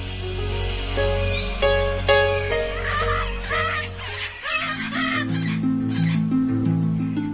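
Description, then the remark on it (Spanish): Parrots at Loro Parque zoo squawk and chatter in repeated, shrill bursts, lively, layered over a steady musical backdrop with no one speaking. “Pero el animal protagonista del Loro Parque es sin lugar a dudas este, que le da nombre y una marcada identidad, distinguible claramente de otros parques zoológicos o reservas del planeta.”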